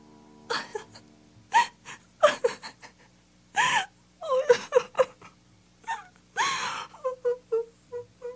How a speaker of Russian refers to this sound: Когда день клонился к вечеру, вышла несчастная красавица в сад. Села на лавку и, конечно, заплакала горючими слезами.